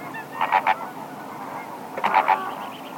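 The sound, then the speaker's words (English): Flamingos honk in two quick bursts of about three nasal calls each, separated by a short pause, over a steady low murmur of background noise. “With fancy pink feathers, legs like stilts, and a beak shaped like a boomerang, few birds are as wildly distinctive as flamingos.”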